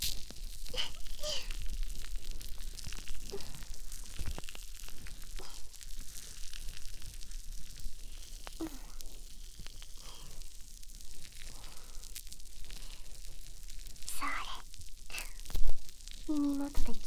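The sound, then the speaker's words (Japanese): Foam bubbles used to clean the ears crackle and fizz steadily throughout, a dense hiss of tiny pops at soft, even volume, with a few brief louder bursts toward the end and no talking. “パチパチした泡の音が気持ちいいね。”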